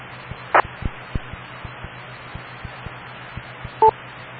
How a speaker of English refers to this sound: Yeah, I wonder if you're coming in by EchoLink. The fact that I only heard one beep.